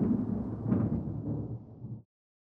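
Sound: thunder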